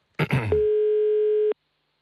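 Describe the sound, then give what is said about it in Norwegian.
A single steady telephone ringback tone, heard while placing a call to a psychologist, hums clearly for about a second, preceded by a brief clipped sound, then stops abruptly into silence. “Jeg skal prøve å få tak i det. Der. Hvis man tar telefonen.”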